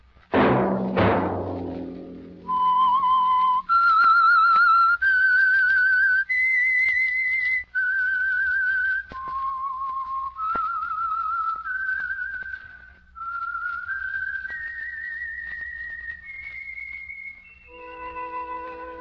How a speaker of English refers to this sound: Let That Whistle be your invitation to listen to the Household Finance Corporation program, The Whistler, each week over these stations.